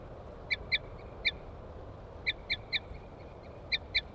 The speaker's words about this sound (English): Female, toots. Male chitter on approach.